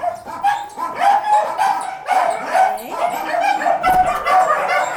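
Many dogs from Ukraine bark continuously in about 20 largish cages under a shed at an animal shelter, overlapping one another with echo, a dense loud chorus of yaps and woofs with a few higher yips, no pauses throughout.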